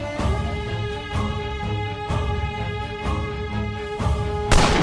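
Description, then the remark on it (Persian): Heavy gunshots boom out about once a second over a steady, droning musical bed, each blast sharp and broad, with a louder, rougher burst of fire closing the passage, as a sniper shoots at ISIS fighters. “این کار باعث شد ماشینای نظامی حرکت کنن و حواس بقیه نظامیا به شلیک به اطراف پرت بشه.”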